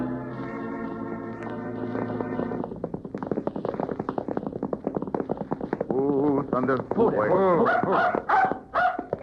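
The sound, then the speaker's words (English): A dog named Blackie, left outside a sheriff's office, barks and yips in quick, excited bursts, following a steady sustained tone at the start, with a busy, clattering background throughout. “Better leave the dog out here”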